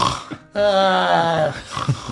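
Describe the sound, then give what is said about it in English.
A voice imitates a loud snore of several people sleeping in a tiny hut where they are camping: one long, buzzing, rasping drone lasting about a second, preceded and followed by quieter snuffling breath sounds. “You hear Mira, Jurg, the serpents, and Kenna loudly snoring.”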